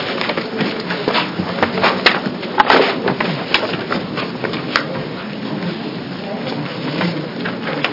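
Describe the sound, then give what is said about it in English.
A printer runs steadily, printing the sign-up sheet at a committee hearing, with a continuous mechanical whir and a rapid scatter of clicks and clacks, briefly louder near the start, then settling into an even rattle. “And do we have the sign-up sheet? Oh, yeah. It's coming out right now, Mr.”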